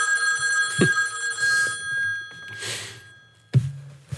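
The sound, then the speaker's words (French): The famous red telephone, an object at the library devoted to Jimmy Carter's presidency, rings as an old-style telephone bell with a bright, shimmering metallic jangle that persists throughout. The ringing is punctuated by a couple of low clunks and heard alone at moderate volume with no talking. “C'est un fameux téléphone de couleur rouge”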